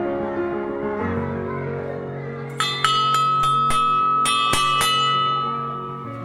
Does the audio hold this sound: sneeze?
no